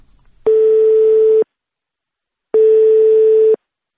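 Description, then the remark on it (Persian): Two steady, loud telephone ringback tones, each lasting about a second with a long pause between, sounding clearly over a quiet line while a call to the city of Novokuznetsk is connecting. “ما تلفنی علیداد را در شهر نوکوزنسک پیدا کردیم و صحبت ما این گونه آغاز یافت”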